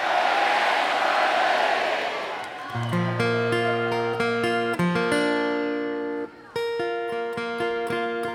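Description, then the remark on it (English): A concert crowd cheers and shouts loudly for a few seconds, saluting the monitor engineer, a dense roaring wash that fades as sustained guitar notes begin ringing out in steady, overlapping tones. “Everybody say, hell yeah, Charlie!”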